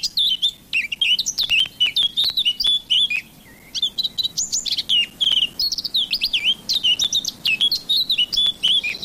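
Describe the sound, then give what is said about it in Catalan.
A Eurasian blackcap (Sylvia atricapilla) sings a rich, fast warbling song of varied whistled phrases, clear, repeating in bursts over a quiet outdoor background with no voices. “En aquest capítol heu escoltat el cant d'aquests ocells. Tallarol de casquet. Sílvia atricapila.”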